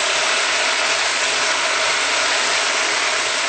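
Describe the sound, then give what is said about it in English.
A steady, rasping grind of a salt mill being twisted to add Himalayan sea salt, a dense gritty crackle with a fast ratcheting texture that holds at an even loudness throughout, with no talking. “And some salt.”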